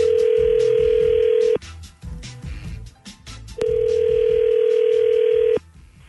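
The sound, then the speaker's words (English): A telephone line rings through the earpiece as a son calls his mother: two long, steady electronic tones about two seconds each, separated by a brief pause, loud with faint background noise between them. “But yeah, my mom was so mad and so irritated by this, she demanded I call her. So I wanted to get her on the phone for this.”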